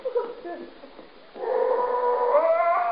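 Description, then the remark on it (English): A dog lets out a long, sustained howl that swells in and holds steady through the second half, loud, after a few softer whining sounds. “I've got to get rid of that blasted dog.”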